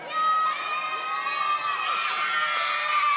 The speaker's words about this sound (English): but I know that children are not. You're good at shouting and you're good at calling out, aren't you? Aren't you, children?